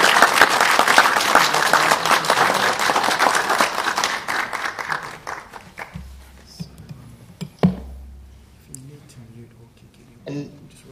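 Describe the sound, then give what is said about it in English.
Members of the gallery and councillors at a council meeting applaud to congratulate Councillor Hempel, with dense, steady clapping that gradually thins and fades out after about five seconds, followed by a low hum, a few scattered knocks and a brief voice. “I would ask members of the gallery and councillors to congratulate Councillor Hempel for thank you.”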